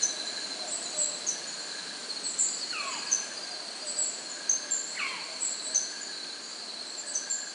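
A tiny owlet nightjar gives two separate descending, gull-like calls a couple of seconds apart, set against a steady nighttime drone of insects and faint high chirps.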